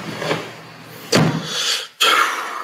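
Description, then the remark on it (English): A garage door rumbling shut, with a low mechanical rattle, a sudden heavy thud partway through, a brief hush, then another loud burst of grinding noise. No one speaks. “Sound like a garage door was closing or something.”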